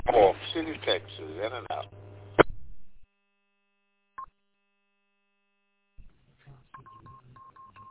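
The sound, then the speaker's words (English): A burst of voice over an amateur radio channel, the W2SAO East Coast Reflector net on Friday evening, May 8th, gives way to silence, then a short beep and a run of steady telephone dialing tones, plain and fairly faint. “So this will be a final couple out, so if you want to get in the lobby tonight, please call now.”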